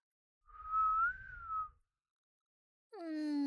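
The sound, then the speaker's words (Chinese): A person whistles one sustained, slightly wavering note, close and fairly loud, with breathy noise underneath. After a short pause, a lower, richer tone that slides downward begins. “要老师吹口哨吗？”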